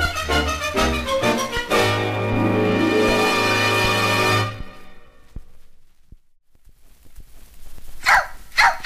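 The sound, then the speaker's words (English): The dog Lady barks and yelps loudly in a sustained, tonal outburst lasting several seconds inside a house with cats, falls silent, then lets out a couple of short, sharp barks. “Come here, you dog!”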